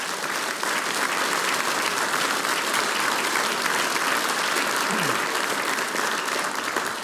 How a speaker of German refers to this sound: Gell? Das ist dein Applaus. Danke, dass du wieder dabei bist.